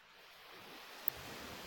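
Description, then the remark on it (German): A soft, steady wash of surf, swelling gradually as a wave rolls in and breaks on the shore, heard alone with no voices. “Vor dir brechen die Wellen ganz kraftvoll und unaufhaltsam.”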